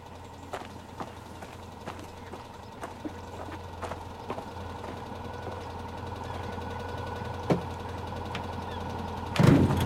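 van engine idling

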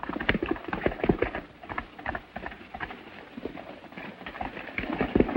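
horse hooves clip-clopping

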